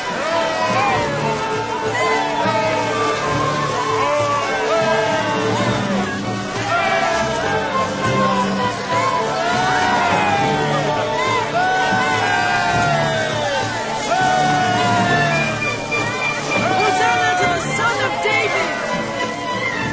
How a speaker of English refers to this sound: As he rode along, the crowd rejoiced and praised God, proclaiming Jesus as king.